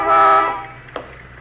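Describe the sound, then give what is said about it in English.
A single loud car horn blast from a black sedan stopped by the curb, lasting about half a second, steady and harmonic, then fading into the quiet ambience of an empty street of small stores and junk shops, with a couple of faint clicks. “You honking for me, mister?”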